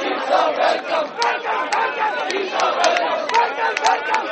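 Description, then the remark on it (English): A large crowd of supporters cheers and shouts continuously, crowding around the Chief Justice's car as he arrives at the Supreme Court and showering him with rose petals, many voices overlapping in a loud, sustained roar with excited yells rising above the din. “Cheering supporters of the Chief Justice crowded around his car as he arrived at the Supreme Court, showering him with rose petals.”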